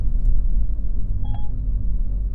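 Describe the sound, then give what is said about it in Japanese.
A heavy truck engine rumbles in a steady low drone, with a brief electronic beep chiming faintly over it partway through. “あとこのトラックどうにかしてくれませんかね。”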